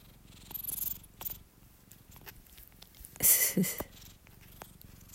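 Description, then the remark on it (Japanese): A cat named Hacchan purring in a steady, low, rhythmic rumble, interrupted midway by a brief louder scratchy rustle as the cat rubs its face against a phone, then the soft purr carries on. No one speaks. “今日はもう私も疲れているので、はっちゃんのゴロゴロ音でね、ねはち、皆さんも癒されてください。”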